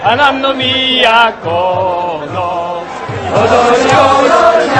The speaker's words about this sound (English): It's a spectacle when you get this whole crowd like doing the whole dance, and there's a song, of course, because there's always a song.